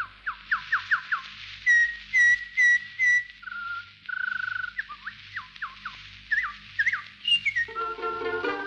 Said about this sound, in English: and just some of my best memories of her are her listening to the song and just loving especially the sound of the birds.